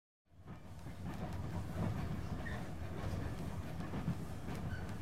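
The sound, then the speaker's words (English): A moving train heading back to Moscow rumbles steadily from the inside, its wheels clacking over the rail joints in a loose, repeating rhythm beneath a dense low roar. No one speaks. “I'm on the train back to Moscow.”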